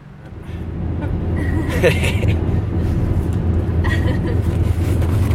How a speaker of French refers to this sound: On est en voiture